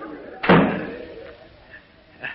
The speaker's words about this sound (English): close that door. Can't hear ourselves think for that rabble in the bar.